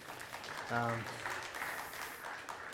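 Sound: audience clapping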